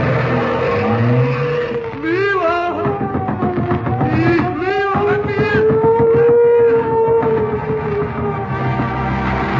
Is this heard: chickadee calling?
no